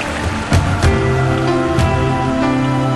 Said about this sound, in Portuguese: Seguimos o riacho, subindo a montanha.